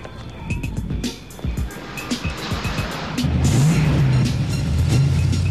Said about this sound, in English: The car pulls up in front of them, and one of the men pulls out a gun and aims it at Axel.